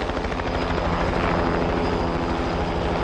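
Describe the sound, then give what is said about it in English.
A helicopter sent to pick up a dying British soldier drones steadily and loudly, its rotor producing a rapid, continuous thudding pulse layered over a broad engine roar, with no voices present. “They sent a helicopter to pick up one dying British soldier.”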